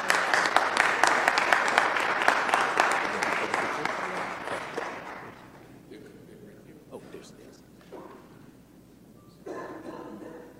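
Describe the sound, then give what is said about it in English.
A crowd claps steadily for about five seconds, a dense, loud patter of many hands, before it dies away into quieter murmurs and a few scattered sounds. “So again, thank you so much for what you do for our children, and we appreciate you and applaud you for all your efforts.”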